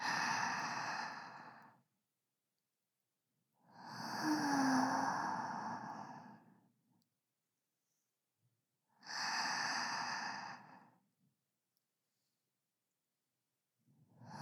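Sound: deep relaxed breathing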